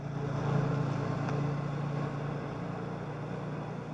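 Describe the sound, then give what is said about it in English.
A car engine rumbles steadily as the car drives off down a deserted, cobbled back street, the noise easing slightly as it pulls away. No voices. “The car heads out into the deserted, cobbled back street.”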